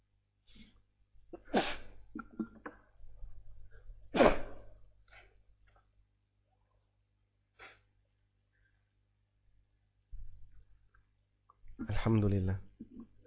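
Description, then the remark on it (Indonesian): A couple of sharp sneezes burst out a few seconds apart, with brief murmured voice sounds around them over a low steady hum, and a short voiced outburst near the end. “Alhamdulillah. Yahdikumullah yuslihmalakum.”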